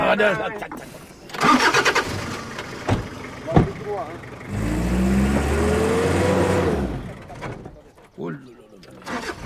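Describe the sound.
A 4x4 vehicle engine in sand roars to life and revs loudly for about three seconds, its pitch climbing, with people talking before and after it.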